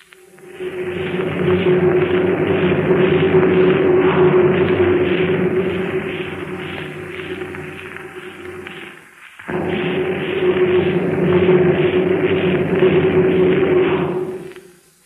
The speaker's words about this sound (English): You heard that as a kind of deep-toned rumble. Really, it was a building vibration, shaking the foundations and walls as a train passed through the tube almost directly underneath the theater.